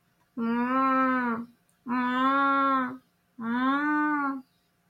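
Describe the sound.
Someone imitates a cow with three long, drawn-out moos, each lasting about a second with short pauses between, loud with a steady, nasal tone.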